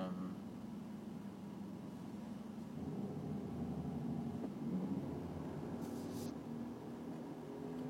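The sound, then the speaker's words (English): A bus engine rumbles past, a steady low drone that swells slightly mid-way before easing off, with no talking. “Oh, this bus.”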